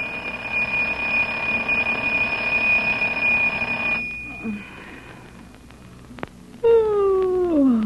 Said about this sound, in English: As we come in, we hear the alarm clock ringing.